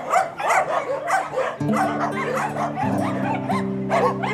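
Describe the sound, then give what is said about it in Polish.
Several dogs at an animal shelter holding 141 dogs bark repeatedly and overlap in a steady, busy chorus, with some yips and whimpers mixed in, loud, while a low sustained tone hums underneath. “Tak właśnie sądzimy, że jednak każda pomoc jest tutaj potrzebna, bo tych piesków przybywa.”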